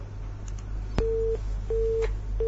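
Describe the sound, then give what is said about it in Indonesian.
A telephone busy tone after a listener's call-in phone line disconnects during a radio question-and-answer session: a click, then repeated steady beeps with short silences between them, over a low constant hum and no voices. “Nah, terputus.”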